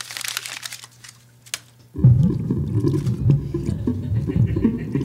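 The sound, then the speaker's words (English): Light crinkling and rustling, then a sudden loud splash as a ticket is thrown into the waters of a sound under moonlight, followed by several seconds of deep, churning water sound. No voices. “Get rid of the ticket. Throw it in the sound.”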